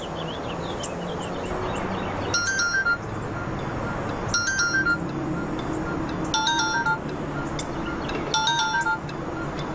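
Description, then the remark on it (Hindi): A mobile phone rings with a bright electronic tone, repeating four times at steady two-second intervals over a continuous background hum and faint bird chirps. “तुम्हारा मोबाइल वहाँ बज रहा है, चिल्ला रहा है, जाओ जाकर उठाओ उसे।”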